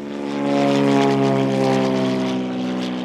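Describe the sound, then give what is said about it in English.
Greg Malloy's propeller aircraft, used to scan coastline and map the seafloor, drones steadily overhead, its engine producing a loud, even hum layered with buzzing harmonics that swells slightly and then holds, with no voices. “Even Greg Malloy's aircraft has limits. It can scan hundreds of miles of coastline in a single pass, but if the water is too deep or too cloudy, it can't sense and map the seafloor.”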